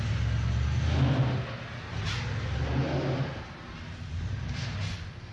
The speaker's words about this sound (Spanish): temo que mi auto tenga algo serio. Ha comenzado a hacer un ruido extraño.